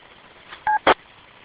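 A short electronic courtesy beep from a radio repeater, a steady two-note tone lasting a fraction of a second, followed at once by a brief crackle of static over faint background hiss.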